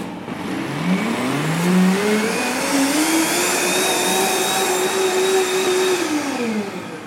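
A blender runs continuously for several seconds, its motor whine rising in pitch then holding steady as it purées cooked carrots into a smooth, velvety mixture, loud with no talking.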